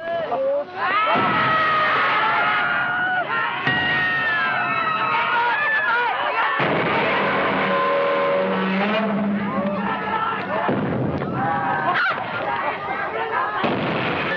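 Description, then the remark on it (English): Many people scream and shriek in panic, high wailing voices overlapping continuously amid loud rumbling, crashing blasts and chaotic background noise, like a frantic crowd fleeing a disaster scene, in the original 1954 Japanese Godzilla (Gojira) monster movie. “Well, that's not the original, but the Godzilla, you know, the original Godzilla is looked on as a campy, scary monster movie, but the 1954 Japanese original is more than just screams, but there are a lot of screams.”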